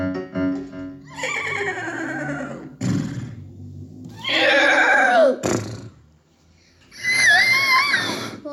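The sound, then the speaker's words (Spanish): A horse whinnies three times in close succession, each call loud and shrill with a shaky, wavering pitch, separated by short pauses and faint background noise. “La palabra de uno de los equinos que tuvo que ver con la queja por discriminación.”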